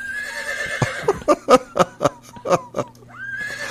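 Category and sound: animal, horse neighing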